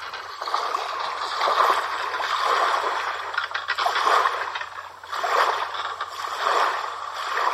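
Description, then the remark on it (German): A boat going out onto a lake to fish: continuous sloshing and lapping, swelling in regular surges every second or so, like strokes through the water, with no voices. “Sie stiegen ins Boot, fuhren auf den See hinaus und warfen ihr Fangnetz aus.”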